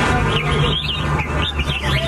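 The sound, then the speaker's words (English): Several caged songbirds sing at once at a bird-singing competition where they are hung up and judged on their tunes, a dense, continuous tangle of bright chirps and warbling trills, loud over a low steady background hum. “No, it's bird singing.”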